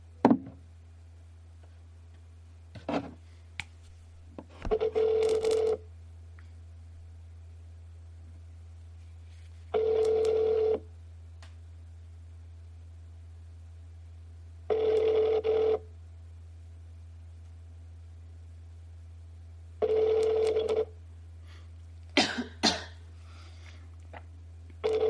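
Outgoing FaceTime audio call tones from the FaceTime app: a steady one-second ringback tone repeats five times at even five-second intervals over a constant low hum, with a few soft clicks between rings.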